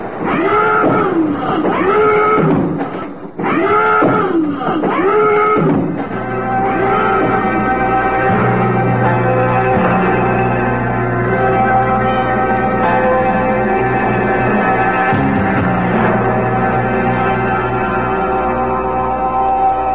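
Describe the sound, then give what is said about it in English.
A loud submarine crash dive alarm sounded aboard the submarine Vigilant for an emergency crash dive: a few rising and falling whooping wails, then a steady, harsh, buzzing drone that holds unbroken to the end. No voices. “Stand by for emergency crash dive. Sound the alarm.”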